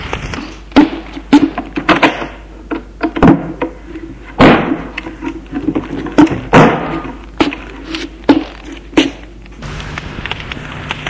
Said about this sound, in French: L'aubergiste pousse une porte.